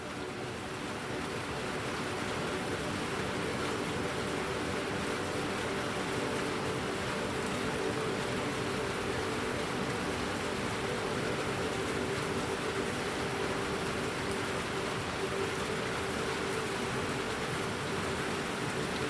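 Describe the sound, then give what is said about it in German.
Steady rain patters softly on a glass roof over an indoor area, a dense, even wash of small clicking drops that continues without a break. There are no voices. “Auf dem Glasdach über dem Innenbereich perlen die Tropfen leise ab. Ein weiches Klicken, das sich mit dem Rauschen der Felle verbindet.”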